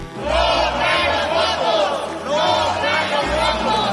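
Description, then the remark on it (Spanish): Opposition legislators chant and shout in protest, crying "no traen los votos" ("you don't have the votes") as they demand an end to the debate and a vote; many voices rising and falling together in a loud, rhythmic cry that swells in repeated waves. “Al grito de no traen los votos, la oposición pidió agotar la discusión y votar.”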